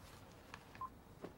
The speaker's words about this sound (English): He stares blankly into space and then hangs up the phone.